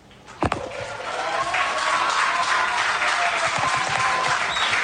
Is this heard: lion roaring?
no